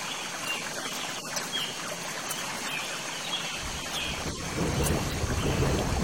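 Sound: earthquake rumble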